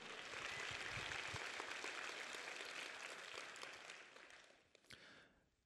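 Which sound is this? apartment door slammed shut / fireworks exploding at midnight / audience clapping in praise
audience clapping in praise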